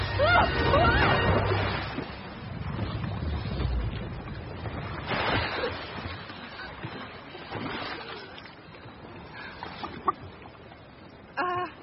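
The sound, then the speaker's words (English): A small boat rides rough ocean waves, with steady surf and splashing washing around it, a low rumble at the start, and a few short clucking calls like a chicken's breaking through. “I board my boat!”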